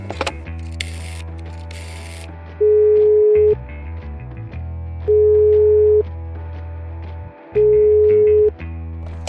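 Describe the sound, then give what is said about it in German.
A telephone tone from a phone in a kitchen sounds three times, each a steady, loud beep lasting about a second, evenly spaced a couple of seconds apart over a busy background of clattering, mechanical noise. “Und währenddessen steht unser werter Lipstick-Tee in der Küche am Telefon.”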